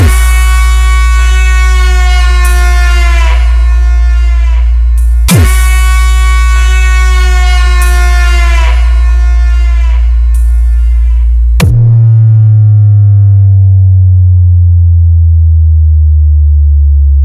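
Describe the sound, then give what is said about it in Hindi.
Loud, brassy blasts of a war conch blown as a war call: two long, steady tones held for several seconds each, then a third blast that bends downward in pitch and trails off, with no voices. “कटप्पा राजमाता, summer शंख फूंक दो।”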